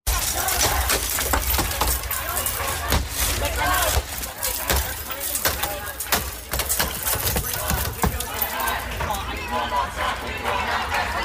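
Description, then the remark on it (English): Students at Columbia strike and smash glass with hammers at Hamilton Hall again and again in an irregular burst of sharp cracks and shattering, loud and steady throughout, with a murmur of voices underneath. “But we also have video of the students at Columbia with hammers at Hamilton Hall, which they've renamed.”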